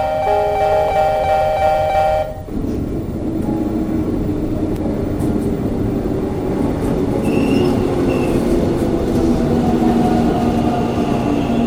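A subway train rumbles loudly through an underground station in Montreal, Canada, on November 16, its low roar steady throughout, with a brief shift in tone early on and faint high wheel squeals later.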